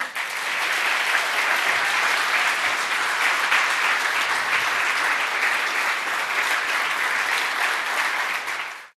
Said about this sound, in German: Bitte begrüßt mit mir ganz herzlich meine grandiosen Podcast-Gäste und gebt einen fetten Applaus für